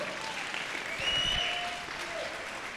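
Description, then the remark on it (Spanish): Steady applause from an audience, a dense wash of many hands clapping that swells slightly midway and then holds, with no one speaking. “Gracias por aplaudir.”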